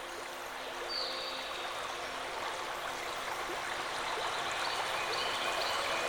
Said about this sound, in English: I'm sitting outside on the steps of my cozy cottage in Sparkle Forest. Can you hear the river just across from me?